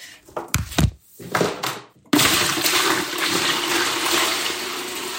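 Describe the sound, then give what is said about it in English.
A few hollow thunks and clatters, then a sudden steady rush of collected rainwater, about 2 gallons, pouring and splashing into the tank behind a toilet to flush it, continuing loudly with no voices. “It takes about 2 gallons to flush a toilet, and we go ahead and put it into the tank behind the toilet.”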